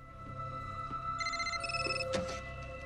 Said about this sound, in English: Saunders' cell phone rings in Palmer's office.